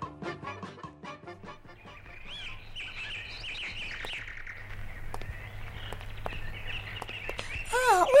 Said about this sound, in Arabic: إلى هذه الطيور الملونة الجميلة. هذه الطيور تسمى طيور الزينة يا أبي. وكيف عرفت أنها من طيور الزينة يا أبي؟